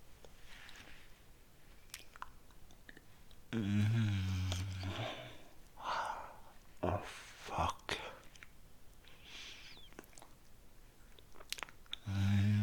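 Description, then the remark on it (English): Crisp crunching and wet chewing of food in several irregular bursts, with soft whispering and mouth noises between bites in a quiet setting. “I'm going to eat it now.”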